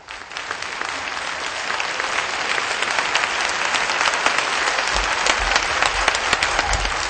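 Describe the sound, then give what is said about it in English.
Sustained applause from a large audience at the Bioorganic Vegan to Serve the Planet conference in Lomé, welcoming Supreme Master Ching Hai joining by video conference, a dense wash of clapping that stays steady and fairly loud throughout, with no voices breaking through. “Ladies and gentlemen, with a warm of applause, please welcome the Supreme Master Qinghai.”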